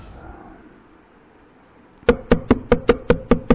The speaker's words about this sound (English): Someone is knocking at the door.